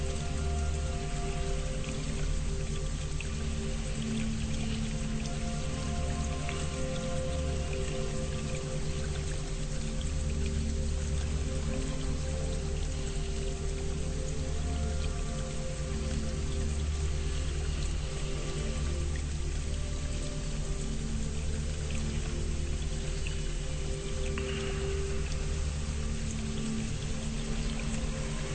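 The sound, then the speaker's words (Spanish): Water of an underground river in a cave flows and trickles steadily and unbroken, echoing, with a low continuous hum beneath it and no voices. “Este río subterráneo te aísla y te limita para poder llegar a todas esas fundales.”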